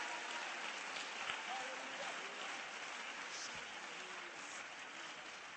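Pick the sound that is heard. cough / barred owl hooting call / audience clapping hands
audience clapping hands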